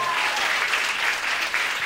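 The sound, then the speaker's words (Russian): Steady applause from an audience for the first guest, a dense wash of many hands clapping at once that holds at an even, fairly loud level throughout, with no voices standing out. “Все, аплодисменты первому гостю, это прекрасно.”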